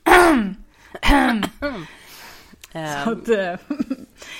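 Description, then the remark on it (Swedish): A few voiced throat-clearing sounds in quick succession, gravelly and exaggerated, like someone loudly harrumphing several times with short pauses between bursts. “Men förutom harklingar, vad har gjort dig förbannad sen sist?”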